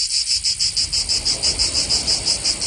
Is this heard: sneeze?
no